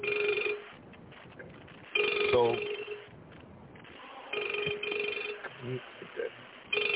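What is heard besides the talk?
telephone ringing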